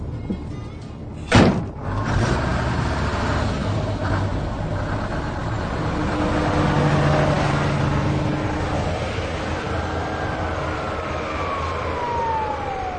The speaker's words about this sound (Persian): اتوبوس به راه میفته.